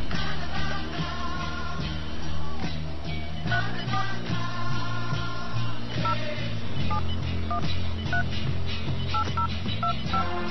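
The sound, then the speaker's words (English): A rapid string of telephone keypad tones as an area code and phone number are entered to place a call, each number beeping in quick succession with steady overlapping pitches, loud throughout with no voices. “Please enter the area code and phone number you wish to call.”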